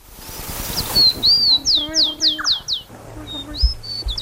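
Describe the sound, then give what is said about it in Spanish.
A rufous-collared sparrow (chingolo) sings: a few clear whistled notes followed by a rapid series of five descending slurred notes, bright, with a low hum and faint background noise underneath. “la función de este trino y este canto es atraer a las hembras y defender territorio”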